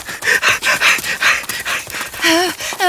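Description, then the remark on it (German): A creature in Costa Rica growls and pants in quick, rhythmic breathy bursts, ending with a couple of rising, whining cries. No one speaks. “Dieses Geräusch! Das Ungeheuer knurrt uns an!”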